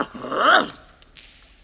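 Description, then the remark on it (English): A dog named Buster lets out one short, whining bark that rises and falls in pitch, loud, then trails off into near quiet with a few faint rustles. “Good dog, Buster.”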